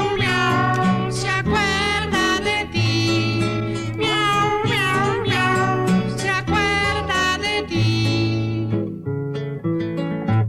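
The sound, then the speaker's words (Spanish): Meow-like cries with sliding pitch repeat over steady, loud backing music, sounding like a voice imitating a cat rather than a real animal, and continue throughout before thinning slightly near the end. “¡Miau! ¡Miau! ¡Me acuerdo de ti! Para la pareja de gatitos y para la manada.”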